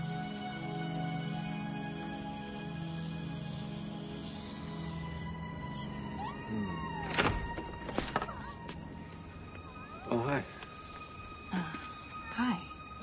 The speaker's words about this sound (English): What are you doing with my cat? Oh, you're scratching to get in.